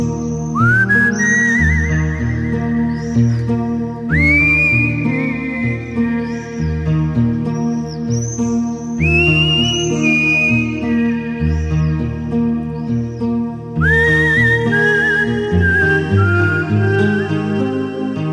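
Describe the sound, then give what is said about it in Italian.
A man whistles a bright melody with sliding, wavering notes, rising in repeated phrases over a full, steady musical accompaniment, loud throughout. “E sono sicuro che ora mio padre, da lassù, nel cielo, finalmente ride e fischia come solo lui sa fare.”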